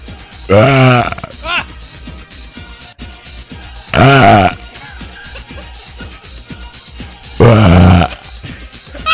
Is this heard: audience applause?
no